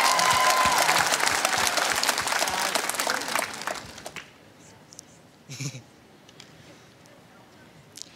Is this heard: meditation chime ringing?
no